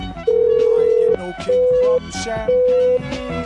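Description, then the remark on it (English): A voice imitates a telephone dial tone, holding a steady, flat hum in four long bursts with short gaps between them, loud over a busy, faintly murmuring background. “I don't have a... dial tone, buddy. I'd have a dial tone sound effect.”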